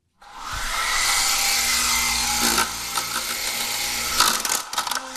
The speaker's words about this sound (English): And that's my remote-controlled airplane helicopter.